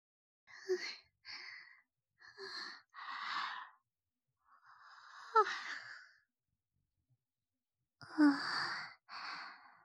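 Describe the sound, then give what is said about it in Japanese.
A person yawns near sunrise with a string of breathy, drawn-out vocal exhalations that come in four short bursts, each rising and sighing away, fairly soft, with no talking. “…あくびが。”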